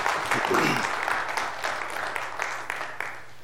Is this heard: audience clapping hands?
yes